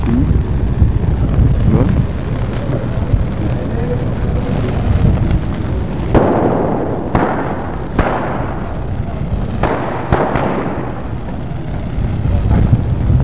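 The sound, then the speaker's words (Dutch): Several sharp bangs from fireworks being thrown, along with eggs, burst out in an irregular cluster, some in quick succession. They cut through a constant loud, rumbling outdoor din that sounds like a crowd. “En er wordt wat vuurwerk en wat eieren worden gegooid.”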